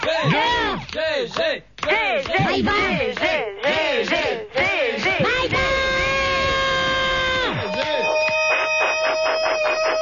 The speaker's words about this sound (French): Arrête de crier.